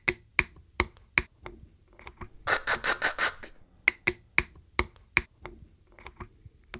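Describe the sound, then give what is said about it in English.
A plastic water bottle cap being twisted open, its tines giving crisp, evenly spaced ticks, then a quick rattling flurry of clicks before the steady ticking resumes. No one speaks. “There are tines that actually go tick, tick, tick, tick, tick, and pop open as you're opening that bottle.”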